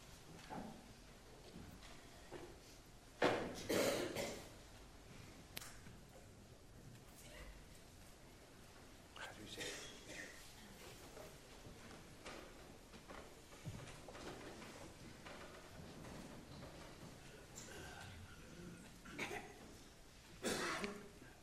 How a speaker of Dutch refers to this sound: Stoelen worden bijgezet.